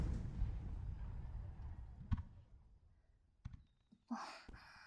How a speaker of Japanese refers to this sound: どこ行くの？まだ花火終わってないのに。